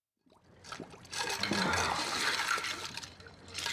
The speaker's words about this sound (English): This is in this scene. Leo DiCaprio plays Rick Dalton, a washed up actor who has a drinking problem, who's putting his face in ice water as the director comes in to talk to him.